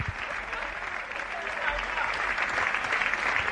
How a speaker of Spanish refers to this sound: Pues ahí están los aplausos, una vez que está accediendo al césped.